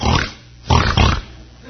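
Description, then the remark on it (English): A person imitates a hog with three short, rough, snorting grunts, the last two close together, loud, with brief pauses between. “So which one are we? A hog?”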